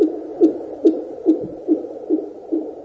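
A fetal heartbeat on a Doppler monitor, fast whooshing pulses at about 140 beats per minute, steady, regular and even over a soft constant hiss, with no voices; the heartbeat of a healthy baby developing in its mother's belly.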